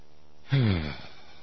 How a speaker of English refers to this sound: And that gasp when I got to hear that gasp again.